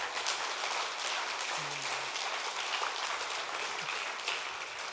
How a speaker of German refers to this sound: Danke an die Mitarbeiter der Durlacher Tafel, die wirklich mit Einsatz hier da sind und alles reingeben. Ein Applaus für euch. Danke.